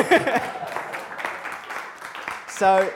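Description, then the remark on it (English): A small audience applauds with a steady patter of scattered claps, moderately loud, while a voice briefly calls out at the start and again near the end. “Applaud that man.”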